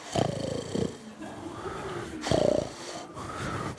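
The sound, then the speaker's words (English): Several voices imitate snoring together: rough, rattling inhaled snores with buzzy low tones, two loud bursts separated by softer breathy snorts and wheezes, with no speech. “Whether you're a natural snorer or not, can you embody a snore?”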